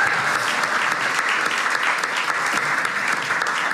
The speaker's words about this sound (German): Also könnt ihr einmal kurz einen Applaus machen? Danke.